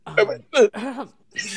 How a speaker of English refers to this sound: I'm sorry, let me just coughed a little bit.